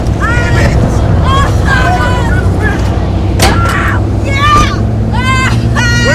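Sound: van driving away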